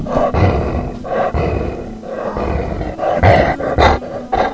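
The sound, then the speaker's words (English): A female dog growls in low, rumbling bursts, several rough surges rising and falling over a few seconds, loud with no talking over it. “Can you hear it growling?”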